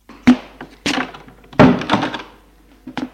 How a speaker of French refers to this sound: Elle ferme la porte.